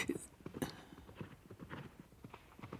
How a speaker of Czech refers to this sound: Slyšíte? Někdo sem pádí nízkou ostřicí a křovinou, jako by toho koně s prominutím ukradl.